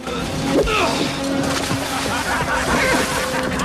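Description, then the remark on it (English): An axe, flung far off into the water by Cull, splashes in with a brief, bright plunge early on, followed by continuous sloshing and lapping over a steady low hum. “Cull retrieves his axe, holds it for a moment, then flings it far off into the water.”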